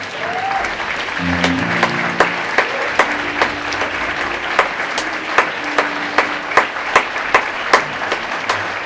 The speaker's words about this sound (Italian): Un grandissimo applauso, un ultimo grande applauso all'orchestra.